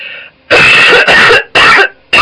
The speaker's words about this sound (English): Also, would you like to hear my cough? I thought you'd be interested. Hang on.